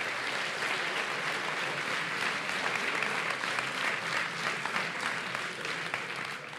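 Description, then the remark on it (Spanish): Steady audience applause for the nominees in the history and beliefs category at an awards ceremony, a dense crackle of many hands clapping at an even, sustained level for several seconds, with no voices rising above it. “Un aplauso para los nominados.”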